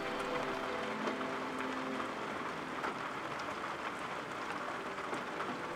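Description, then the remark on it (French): Steady rain patters against a window, a dense, even wash of tiny drops with occasional sharper taps, continuous, with no voices. “On dirait le clapotis de la pluie dans la fenêtre.”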